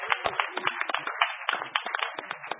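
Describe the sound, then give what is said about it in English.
Audience applause for everyone standing up who belongs to or attends a hackerspace: a dense, steady crowd of many hands clapping at once, with sharp overlapping claps filling the full 2.6 seconds at moderate volume and no voices. “I think it's a round of applause for everybody standing up out there.”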